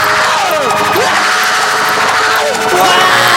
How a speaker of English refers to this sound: Wow! Give me your best screams, guys.